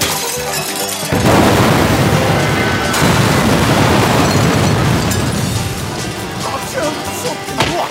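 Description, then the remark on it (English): Loud, chaotic crashing of bottles smashing and glass shattering bursts in after a second and keeps going in a dense, brawl-like clatter until the end, as bottles are broken over people's heads in a Western bar fight. “Wow, it never ceases to amaze me the endless amount of bottles people have to break over each other's head in a Western bar fight.”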